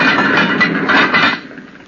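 A heavy log scrapes and knocks as it is shoved into a furnace, a rough, clattering rumble for over a second before it settles and fades.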